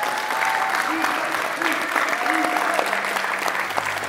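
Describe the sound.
Steady audience applause at Mountain View in appreciation of a man's service there fills the whole clip, a dense, even wash of clapping hands at a fairly loud level, with faint voices and cheers blending into the crowd noise.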